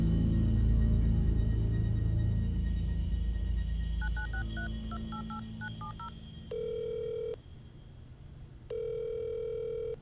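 A phone number is keyed in as a quick run of about a dozen touch-tone beeps, followed by two long, steady ringback tones, with a low rumble fading out at the start.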